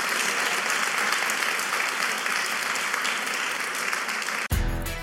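A crowd claps steadily in a round of applause for Horace Mackey, a dense, even wash lasting several seconds before it cuts off abruptly into a different, lower-pitched sound at the end.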